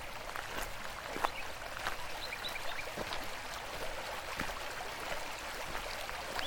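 A stream flows steadily with a continuous soft rush, small splashes and trickles ticking through it. The water sounds fairly quiet and unbroken throughout, with no voices.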